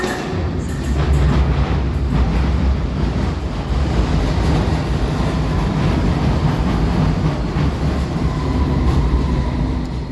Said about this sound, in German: Ich würde sagen, es klang wie ein Zug. Es war auch ein Zug, aber nicht irgendeiner. Es war die Londoner Underground an der Victoria Station.